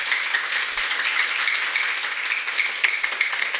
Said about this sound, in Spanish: Acá está el libro, Fuerte el aplauso.